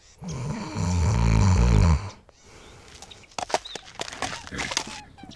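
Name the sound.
imitated snoring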